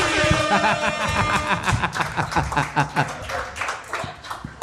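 An audience breaks into applause: dense, steady clapping with sharp overlapping claps, plus some whooping voices early on, gradually thinning toward the end.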